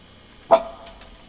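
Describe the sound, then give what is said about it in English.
A single sharp dog bark rings out, a short loud yelp that fades quickly, followed by a couple of faint, brief sounds. “To the rib cave with the dog!”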